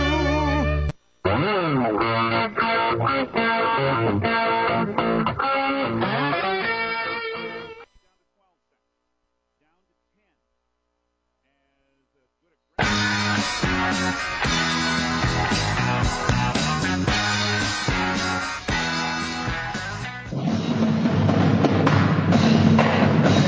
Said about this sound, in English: Welcome back to Rickside Gym as we are at the half, our CHS River Plains halftime. And the sounds you hear are the beautiful sounds of percussion, the drumline of the Pier High School Emerald Regiment and the pep band entertaining the crowd here